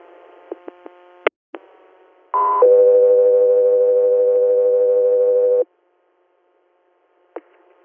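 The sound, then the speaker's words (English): A two-part radio dispatch alert tone for the air medical unit South 3 Air, sent for an interhospital transport from St. Joe's in Syracuse to Albany Med, Albany, New York: a short higher-pitched beep followed by a long, steady lower tone lasting about three seconds, framed by clicks and faint static bursts. “South 3 Air, stand by for tones.”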